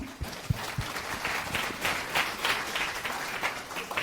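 Audience applause: many hands clapping in a dense, steady patter that holds at a moderate level throughout, with a few louder low thumps near the start.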